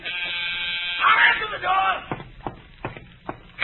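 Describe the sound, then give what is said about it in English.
A door buzzer gives a steady, harsh electric drone for about a second, followed by a brief noisy burst and a few sharp, evenly spaced thumps. “The door.”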